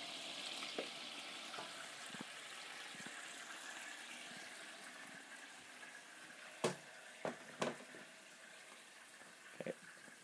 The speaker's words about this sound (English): Right, a bit of sizzling in a second, I expect, when I pull this into the pan. Like that.